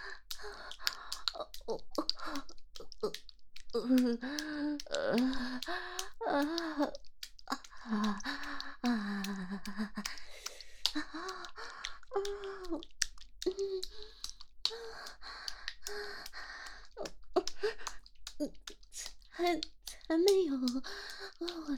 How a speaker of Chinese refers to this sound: 你的呼吸声很重，应该很爽了吧？